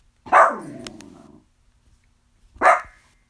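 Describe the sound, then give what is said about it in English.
A dog barks twice, a loud first bark trailing into a brief growly rumble, then a pause before a second sharp bark. No one speaks. “Oh, my dog's barking.”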